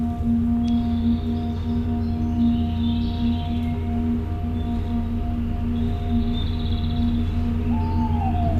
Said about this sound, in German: Und wir hören schon das nächste Summen auf der anderen Seite der Halle. Diese beiden Summen singen den Ton der Sukkulentenhalle.